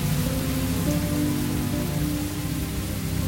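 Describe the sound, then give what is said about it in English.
Steady rain pours down onto a rain-soaked balcony, a dense continuous patter with a low rumbling undertone, fairly loud throughout with no voices. “turns to the rain-soaked balcony.”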